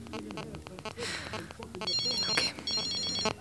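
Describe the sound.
A mobile phone ringtone in an apartment, ringing from a handbag, plays a repeating electronic melody with bright, tonal beeps, steady, while muffled voices or movement sounds mingle underneath.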